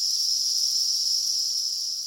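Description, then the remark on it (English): A dense, steady chorus of cicadas buzzing, a high continuous shrill drone from many insects at once, loud and unbroken with no voices. The cicadas have emerged en masse from underground and are flying around trying to find mates. “So cicadas spend most of their young lives underground feeding on roots, and they emerge en masse, flying around, trying to find mates, making a lot of noise.”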